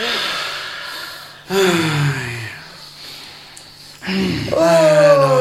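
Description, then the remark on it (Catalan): Several people take loud, deep breaths in overlapping bursts, with sharp gasping inhales and strained exhales, building in intensity toward the end. “Ara, respireu tots ben profund.”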